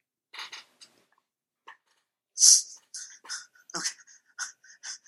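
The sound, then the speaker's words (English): A man's voice imitates a little Chihuahua, letting out a burst of high-pitched yips and whimpers, starting with a few soft squeaks then a louder run of short, whiny cries. “he turned into a little Chihuahua, and it was amazing”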